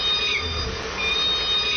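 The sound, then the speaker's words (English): Thin, high, squeaky calls of the K pod of killer whales, a few short mewing upsweeps like kittens, repeating about every second over steady underwater hiss and low rumble. No voices. “K pod, like a bunch of kittens.”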